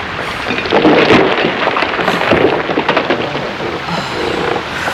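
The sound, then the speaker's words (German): A loud, sustained roar of crashing and rumbling as a tree trunk rams a boat and it plunges down, with a few sharp impacts breaking through the churning noise. No one speaks. “Da, der Baumstamm hat das Boot gerammt. Es stürzt ab.”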